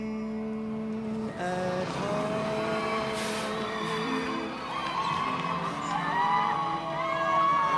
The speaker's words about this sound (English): Later, a yellow school bus pulls up in Queens, and the kids pile out.